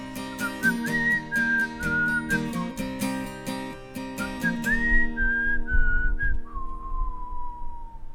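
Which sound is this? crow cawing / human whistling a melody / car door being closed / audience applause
human whistling a melody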